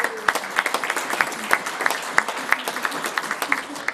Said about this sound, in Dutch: Zo gaat dat als je voor het eerst het woord voert in de raad. Dan krijg je applaus. Dat is de eerste keer en de enige keer meestal.